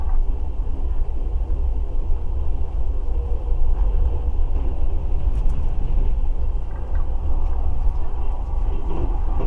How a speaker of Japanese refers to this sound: 本日はトワイライトエクスプレス号にご乗車いただきまして誠にありがとうございます。